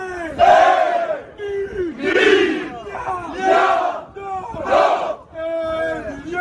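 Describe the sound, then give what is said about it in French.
A large crowd of football supporters chants in rhythmic bursts from stadium stands at a French Cup match against Caen, voices swelling together roughly every second and a half, loud and sustained with a dense, echoing roar. “J'ai l'ambiance pareil dans les tribunes.”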